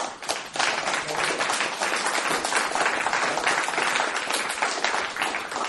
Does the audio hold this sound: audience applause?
yes